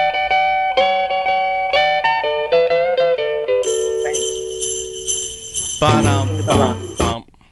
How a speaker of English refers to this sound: Which Christmas song starts with this riff? Take a listen.